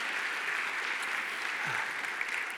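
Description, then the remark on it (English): An audience claps hands together in praise of God in a steady, dense wash of applause that fills the room, many overlapping claps at an even level with no one speaking over them. “If you've really been saved, if you really know him today, if God delivered you when no one else could and opened the door that no one else could, would you clap your hands right here and right now?”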